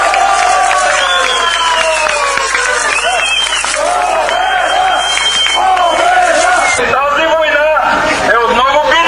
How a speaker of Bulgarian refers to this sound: Новината, че новият областен управител, който от ДПС е подал оставка, бе посрещната с викове победа.